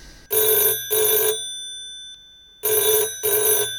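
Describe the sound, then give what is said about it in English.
A telephone rings in an office in two double bursts, each pair of bright, buzzing trills separated by a pause of silence. The ringing is loud, with no voices present. “When I got back to the office, the phone was ringing.”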